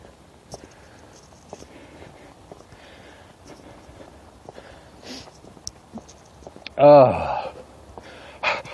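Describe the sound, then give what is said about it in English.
A person pants heavily after exertion, with a few soft huffs followed by one loud, voiced gasping exhale and a final sharp breath. “I'm panting this morning because I used so much energy to begin with.”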